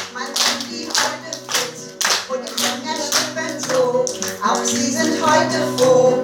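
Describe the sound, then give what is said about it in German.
Hands clap in a steady, even rhythm, roughly two claps a second, keeping time with a cheerful birthday song played underneath. The sharp claps stand out clearly over the music. “Und die Hände klatschen mit.”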